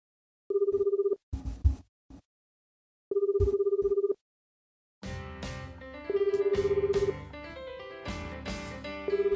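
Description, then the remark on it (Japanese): A telephone ringback tone of an outgoing call sounds twice in steady buzzing bursts with silence between, then music swells in and a third ring plays faintly beneath it. “すっぱだかのトシ君はユキリに電話をかけた。”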